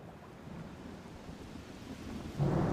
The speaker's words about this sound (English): Then the water started to splash and splosh and pick up in strength. They could see that a storm was brewing above the waves.